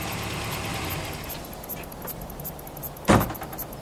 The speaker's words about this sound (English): Is that truck for us? It's heading this way. Perhaps we should have kept moving.